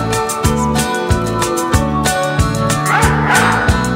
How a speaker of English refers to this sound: I heard a dog bark and I went out to check. Old Buck had Rudolph down by the neck.